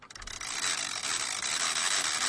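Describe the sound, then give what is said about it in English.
A hand winch ratchets steadily as a 21-foot sailboat named Obsession is cranked onto its trailer at a boat ramp near State Park headquarters at Grand Lake St. Mary's, a fast, bright, raspy stream of clicks that starts with a few jerks, then runs continuously. No voices. “is winching his 21-foot sailboat Obsession onto a trailer.”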